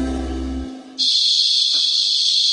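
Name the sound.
cicadas buzzing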